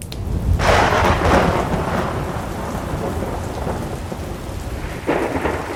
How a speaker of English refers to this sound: Outside, the very devil of a thunderstorm was raging.